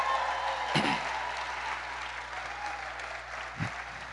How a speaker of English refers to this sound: Let's go ahead and keep them hand claps going for Mr. and Mrs.